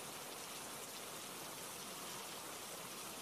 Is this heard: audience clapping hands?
no